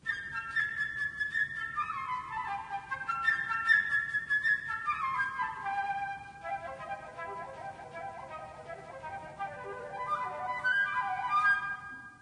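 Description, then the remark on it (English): A flute plays a bright, high, birdlike melody depicting a bird, full of quick runs and fluttering trills, rising and falling steadily for about twelve seconds with no voices. “And now the flute?”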